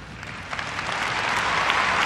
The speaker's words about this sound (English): President Obama had something to say about trust in his farewell speech as president in Chicago before a cheering crowd of 20,000 people.